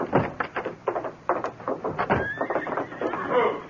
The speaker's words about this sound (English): Hey, look, through the window. What are you looking at? A big white stallion coming down the slope toward the gates. But nobody's in the saddle.